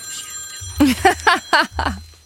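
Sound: phone ringing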